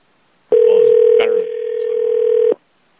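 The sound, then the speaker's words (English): A telephone ringing over the line: one steady, loud buzzing tone that lasts about two seconds, with a brief click partway through, then silence. “In fact, I know I'm going to need a lot of drugs because somebody else is going to answer this phone now.”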